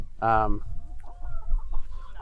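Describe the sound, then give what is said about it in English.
A young rooster gives a loud, brief harmonic squawk near the start, followed by softer clucking and rustling in a barnyard-like setting. “So we do have one rooster in here. He's becoming a rooster, I guess.”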